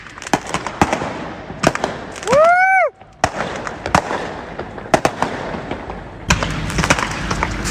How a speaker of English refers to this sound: But what are the odds that the RV was not full of people, but full of fireworks? Listen to the audio of this video. This is pretty fun. East LA. Oh, man. We've got fireworks in there. Oh, man. That's why it's on fire. RV has fireworks.